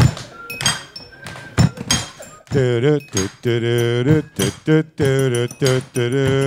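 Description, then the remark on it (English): Several people stomp in a loose, uneven rhythm of heavy thumps with a few light clinks as a cheap glass is broken, then loud sustained voices chant or sing over continuing beats. “Guys, we just stomped.”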